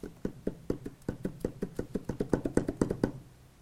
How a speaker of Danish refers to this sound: Den herlige lyd af fodtrin. Der kommer op over bakken. Der kommer med budbringeren.